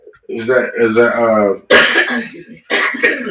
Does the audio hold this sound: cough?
yes